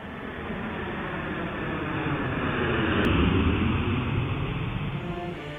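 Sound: airplane in flight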